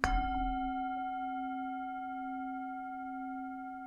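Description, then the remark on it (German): A singing bowl is struck once at the start of a meditation, giving a bright metallic attack followed by a long, steady ringing tone with shimmering overtones that sustains evenly without fading much over several seconds. “Ich beginne wie immer mit dem Gong der Klangschale und hole dich wieder mit dem Gong der Klangschale zurück.”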